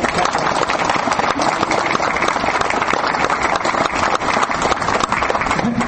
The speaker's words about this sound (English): So we've got to get a round of applause for them.